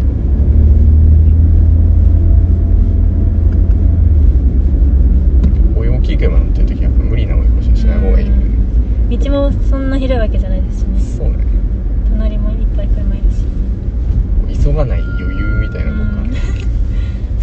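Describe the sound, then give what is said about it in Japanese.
A steady, loud low rumble of a car in Sport Plus mode driving on Musashi-sakai-dori road, with a bus nearby, fills the whole recording, with people talking over the engine and tire noise for most of it. “あ、バス気をつけてね。”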